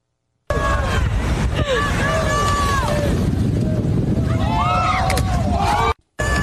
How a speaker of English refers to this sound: After the teen bounced off the rock ledge, a collective ooh was shouted by the crowd before a bystander jumped in to help.